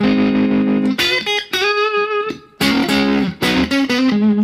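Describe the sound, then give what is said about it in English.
An electric guitar using the Telecaster model on a Variax, played through a Fender Vibralux amp model with vibrato, a little tremolo, reverb and compression, ringing out a few sustained notes and chords whose pitch gently wavers, loud with no one talking. “So to get the main tone, I used the Telecaster model on the Variax, and I put it through, what did I use here?”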